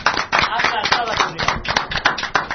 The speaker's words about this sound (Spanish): Creo que la victoria aplastante es para Mega Man. Señor Mega Man, un aplauso para Mega Man.